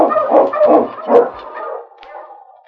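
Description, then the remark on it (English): Sled dog huskies bark and yip in a quick cluster of excited bursts, fairly loud, trailing off into fainter high whines and yelps, as the dogs are got in line. “Got the dogs in line. One thing! One, you huskies!”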